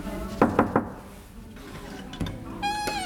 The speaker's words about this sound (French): J'entre dans un local associatif. Il y a des cours de danse sur ma droite. Un endroit très lumineux avec une verrière. Je vais pousser, oui c'est là, une porte sur laquelle il est écrit « Salle interdite ».